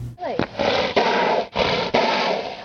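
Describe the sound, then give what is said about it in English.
A horse snorting angrily: loud, harsh, breathy blasts run almost continuously, broken into about four long rasping bursts by brief pauses, with a roaring, noisy texture and no talking. “The word is embrimaomai, and it actually refers to a horse snorting angrily. Here's a quick video to help you understand.”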